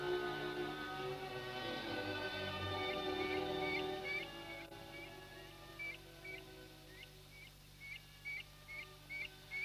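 A redshank at Fokstumyra bog gives a rapid series of sharp, piping calls at a steady, insistent rhythm, clear over a low background rumble.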